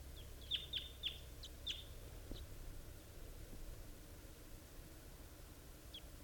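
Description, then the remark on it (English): Several short, high chirping calls from wild birds coming in and settling in the trees come in a quick cluster at the start, then one more lone call near the end, over a steady low rumble of background noise. “There are wild birds coming in.”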